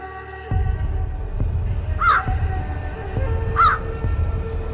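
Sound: bird calling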